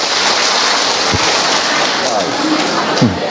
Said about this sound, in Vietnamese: Rồi một tràng pháo tay thưa tạ ơn Chúa.